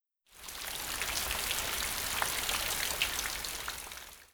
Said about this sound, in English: It's rainy today.